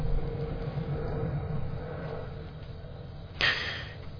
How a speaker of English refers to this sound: And, oh yes, planes passing over too.